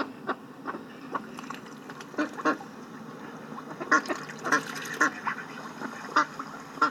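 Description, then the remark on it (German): Several ducks quack repeatedly at a lake in short, overlapping bursts, growing louder and busier partway through, with a steady low background murmur like open water or an engine. “Die Entenbrüder des hässlichen Entleins kehrten an den See zurück.”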